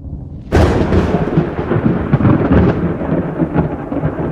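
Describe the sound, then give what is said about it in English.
Thunder from a storm: after a brief quiet moment, a loud crack bursts in and becomes a heavy, rolling rumble that keeps booming for several seconds. No one speaks. “Of course, these days, most of us no longer attribute breathtaking thunderstorms to angry gods like Zeus or Thor.”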